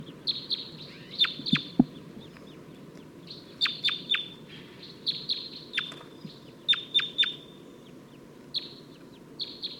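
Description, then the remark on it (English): A wild crossbill perched in a dead tree just beyond a net gives its V-shaped call: repeated sharp, high chirping calls in short clusters, each with a quick sweeping inflection, over a steady low background hum. No one speaks. “I think there's a crossbill that's giving that weird V-shaped call.”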